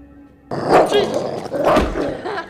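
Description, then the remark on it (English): A dog gives two rough barks about a second apart, fairly loud, with a low growly edge over a faint background hum. “Hey, puppy, you a little wax dog, too? What up, dog?”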